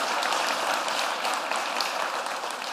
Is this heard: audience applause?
yes